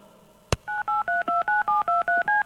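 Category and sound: signal or alarm, telephone dialing tones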